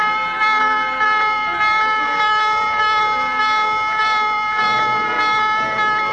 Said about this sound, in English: Sunday, August the 2nd, 1964, the destroyer Maddox was on such a patrol. Shortly after noon, the calm of the day is broken as general quarters sound.